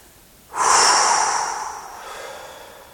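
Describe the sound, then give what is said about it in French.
A deep, airy breath drawn in through the nose and then the open mouth, filling chest and belly, swelling suddenly and then slowly trailing off into a soft, fading exhale in a big sigh, with no one speaking. “J'inspire par le nez, je gonfle ma poitrine, je continue à inspirer par la bouche ouverte, je déploie mon ventre et quand j'ai fait le plein d'air, je souffle dans un gros soupir.”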